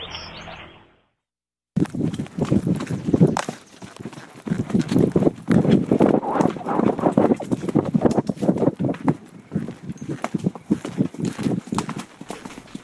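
Horse hooves clip-clop steadily in an uneven walking rhythm as a rider takes the horse up a hill, moderately loud, with faint rustling and outdoor ambience around them after a brief silent gap at the start.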